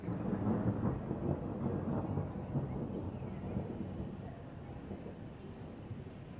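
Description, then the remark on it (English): A collage of thunder recorded during thunderstorms: deep, sustained thunder rolls and rumbles continuously, loud at first and easing slightly toward the end, with no voices present. “This is a thunder collage that I recorded some time ago.”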